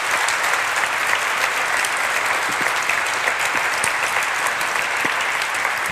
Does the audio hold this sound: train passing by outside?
no